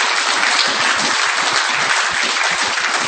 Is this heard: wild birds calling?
no